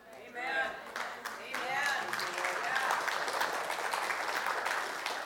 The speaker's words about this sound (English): Thank you for that smattering of applause.